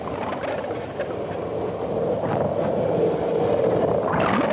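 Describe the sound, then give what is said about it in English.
A steady, dense underwater rumble of many ships' engines and churning propellers, recorded by a microphone inside two condoms dropped over the side of a ship. Loud and continuous throughout, with a low droning hum and no pauses or voices. “We can't hear the dolphins, of course, but what we can hear is the terrible din of all these ships' engines and propellers.”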